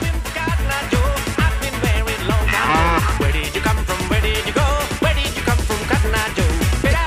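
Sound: cow mooing sound effect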